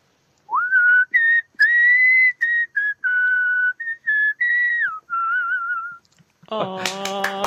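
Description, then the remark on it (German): A musician whistles a short melody live in Switzerland, clear, fairly loud sustained notes with gentle pitch slides and brief breaks between phrases, then a voice speaks briefly right after. “Und pfeifen, geht das? Etwas ja, pfeifen, es geht.”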